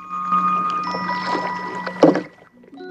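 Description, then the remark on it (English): Oars creak and splash as the wooden boat Swallow is rowed through water, two children each using an oar to guide it into a cove. A sustained low hum runs underneath and a brief louder slosh comes near the end, with no speech. “They use an oar each to guide the boat into the cove.”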